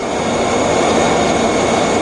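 A steady, loud jet engine roar with a broad rushing hiss and faint high whine from the Taranis, an unmanned stealth warplane developed by British Aerospace Engineering Systems, in flight. It is continuous for the whole stretch with no voices.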